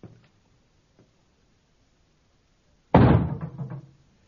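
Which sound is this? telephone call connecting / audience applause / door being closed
door being closed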